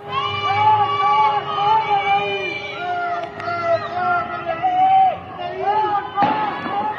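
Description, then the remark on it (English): Many people shouting and screaming in distress, a continuous chaotic din, with two sharp bangs of gunfire cutting through, one midway and one near the end, during a fire with several blazes at Evin prison on the outskirts of Tehran, Iran. “Video posted online shows several blazes, people screaming, gunfire.”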